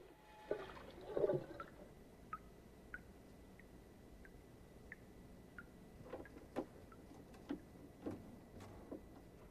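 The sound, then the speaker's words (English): A soft burst of splashing water near the start as a woman splashes water onto her face, followed by scattered small drips and trickles. No one speaks. “She splashes water onto her face.”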